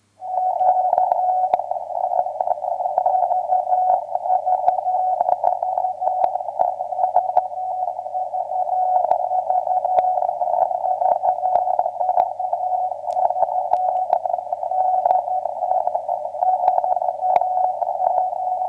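A Morse code tone buried in crackling shortwave radio static, droning steadily at a loud level for the whole stretch, with sharp clicks and pops scattered through it and no voices.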